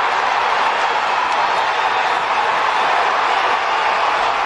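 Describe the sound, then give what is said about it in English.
A huge baseball stadium crowd roars and cheers in a steady, loud, unbroken wall of noise for several seconds, with no single voice standing out, after Peter Alonso puts the New York Mets ahead of the Brewers. “Those are not boos. That's cheering.”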